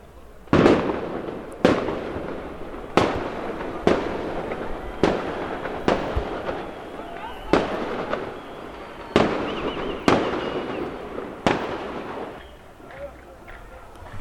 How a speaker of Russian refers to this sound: А арабы тоже чего-то там постреливают, но какими-то... С каким-то элементом такого фейерверка там у них что-то там еще и блестит.